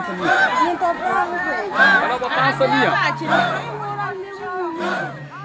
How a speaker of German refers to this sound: Das ganze Dorf war auf den Beinen. Geschrei und Gesang sollten den Jungen und Mädchen Mut machen für das Ritual der Beschneidung, die Schwelle zum Erwachsenwerden.